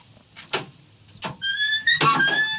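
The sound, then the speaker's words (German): The door of an old public telephone booth on a village green, built around 1932 to 1934 and now holding books, is opened: a couple of clunks from the latch, then a long, rising metallic creak of stiff hinges with a rattle as it swings. “Oh, also die Tür funktioniert.”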